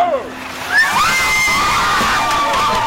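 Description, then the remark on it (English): A bucket of ice water splashes down onto a long-haired man taking an ALS ice bucket challenge, the brief sloshing quickly covered by a crowd's excited shouts and squeals that carry on for a few seconds. “A little chilly, but I don't think I got enough water. I think I could have used three or more buckets.”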